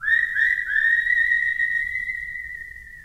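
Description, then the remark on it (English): A clear whistled melody opens a western song with a few short notes, then settles into a long sustained note that glides slowly upward, with a faint low rumble underneath and no voices. “And the animated critters are kind of echoed by the whistling mm-hmm.”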